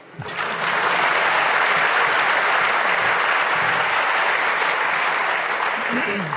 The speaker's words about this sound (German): Applaus!